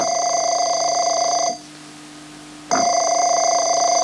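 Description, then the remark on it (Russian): A telephone rings loudly with a bright, electronic-sounding tone in the director's office of the Institute of Molecular Biology: one long ring, a short pause, then the ring starts again. No one speaks. “Раздается телефонный звонок.”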